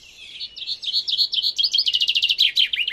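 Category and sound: bird, chaffinch song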